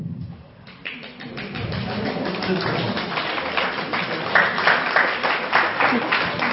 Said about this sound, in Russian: Я сказала, пока не хлопайте.